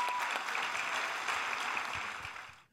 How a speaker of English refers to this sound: Can we just applaud our families?